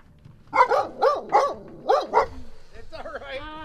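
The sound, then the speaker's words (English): A female puppy at a home on Newton Road in Brandon, central Vermont, gives a quick run of about six high, yappy barks, then a few softer whining yelps as things settle. “She's a puppy. She gets a little excited, so watch her.”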